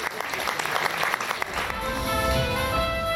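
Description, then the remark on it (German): Steady audience applause at the open stage of the Traumschiff-Theater as line dancers open the show, a dense wash of many hands clapping at a fairly loud, even level, with a few faint voices underneath and tonal sounds emerging toward the end. “Applaus.”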